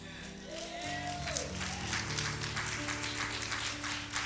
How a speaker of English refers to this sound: And if you get annoyed with her hand claps, you got to know her story.